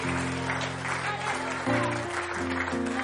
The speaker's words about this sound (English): Somebody give the Lord a hand clap this morning.